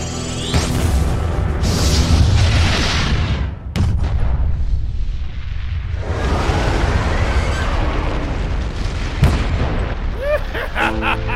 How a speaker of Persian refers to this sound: به نظر میاد یکی کارو یک سره کرد. یک کف زیاده روی نکردی؟ یکی از همین روزا کل سیاره رو منفجر میکنی.